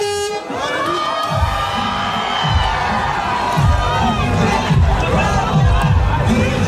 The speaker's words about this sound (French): Ils vont descendre du bus, les joueurs, évidemment, comme des rockstars, vous allez l'entendre. Voilà, ça crie dans la foule.